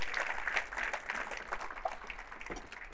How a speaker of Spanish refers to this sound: Y si alguien lo cree, debiera decir un fuerte amén. Darle ese aplauso más fuerte al Señor Jesús, porque Él se lo merece.